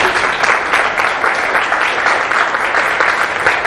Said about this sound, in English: I want you all to please clap for him.